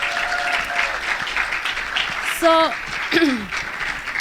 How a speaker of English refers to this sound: So thank you for being here. Quick round of applause for these amazing people, please.